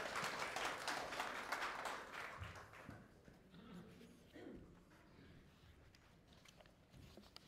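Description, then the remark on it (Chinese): A church audience claps together in a steady burst of applause for a few seconds to welcome a pastor to preach, then it thins and fades out, leaving quieter background noise with faint voices. “会众请坐，让我们这时刻拍手欢迎林牧师为我们分享。”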